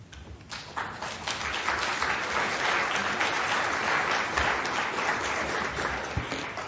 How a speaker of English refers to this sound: Let's hold our applause till the end, since we have quite a few people to speak today.